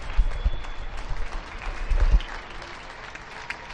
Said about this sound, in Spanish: Hasta ahora España está citada, cada uno desde su domicilio, a aplaudir al personal sanitario que tanto está haciendo estos días por nosotros.